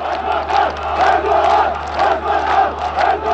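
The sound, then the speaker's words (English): A large crowd of residents in Siirt, Turkey, cheers and chants in a steady, rhythmic swell after Erdogan's election win, many voices rising and falling together in repeated loud phrases of "Erdogan, prime minister!" with no single speaker standing out. “Erdogan crushed his opponents, winning more than 85% of the popular vote in Siirt, where the residents of this poor region cheered wildly, knowing now they'll be represented in parliament by the country's prime minister.”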